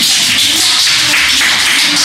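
A burst of applause: many hands clapping in a dense, steady patter that stays loud and even for about two seconds, with no voices on top.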